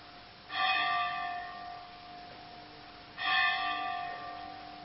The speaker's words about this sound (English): Just wait till the bell stops.